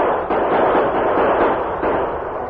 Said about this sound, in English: The outlaws were fully exposed to the sudden, unexpected burst of gunfire from the top of the hill behind their backs. The Lone Ranger and Tonto fired accurately, despite the distance. Several crooks were wounded.